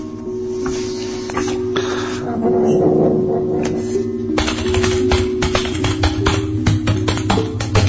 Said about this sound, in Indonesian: Tidak lama dari itu, ketika aku sedang fokus mengetik,